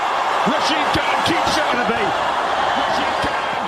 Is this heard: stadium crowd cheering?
yes